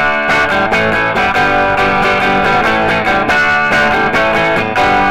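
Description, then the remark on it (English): A clean electric guitar on its Jeff Beck bridge humbucker, played through a Deluxe Reverb tube amp, strums ringing chords in a steady rhythm, loud, with no voices. “All right, clean tones first. This is a deluxe reverb with Jeff Beck humbucker in the bridge and Stratocaster pickups in the neck in the middle.”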